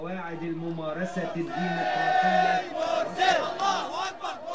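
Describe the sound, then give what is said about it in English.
A dense crowd of young men, jogging through crowds in Tahrir Square, Egypt, and carrying a giant Egyptian flag, chanting and shouting together in support of the Muslim Brotherhood candidate in loud, rhythmic bursts, voices overlapping and rising in waves throughout, energetic with no quiet gaps. “A shouting, jogging phalanx of young men bearing aloft a giant Egyptian flag snaked through the crowds, chanting their support for the Muslim Brotherhood candidate”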